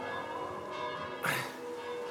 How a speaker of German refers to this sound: Die Glocken meiner Heimatkirche.